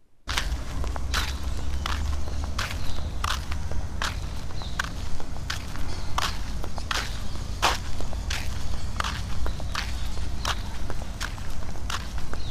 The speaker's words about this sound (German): Wir sollten den Gang noch durch unsere Schritte ergänzen.